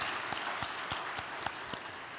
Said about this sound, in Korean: 네, 박수 부탁드리겠습니다.